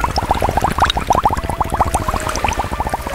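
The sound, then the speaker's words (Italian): Water pouring and splashing, a steady stream of rapid bubbly gurgles and small splashes that continue without a break for a few seconds, with no voices. “Così uscirono insieme e passeggiando verso il bosco si imbatterono in un lago dove c'era un mago che faceva una pozione magica in acqua dopo aver fatto un tuffo a bomba.”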